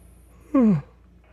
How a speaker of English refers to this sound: Okay, I'm yawning. Time to wrap it up.